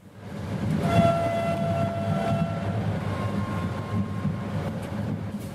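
vehicle, train travelling on rails

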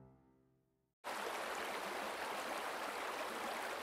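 nature, flowing river water

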